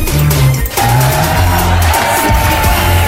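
A large sports crowd cheers excitedly in a loud, dense, continuous roar lasting a few seconds, with sustained low chanting tones running underneath.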